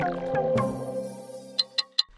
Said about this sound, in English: Hear that? That's the clock counting down to the Brisbane 2032 Olympic and Paralympic Games, which, if you can believe it, are only 10 years away.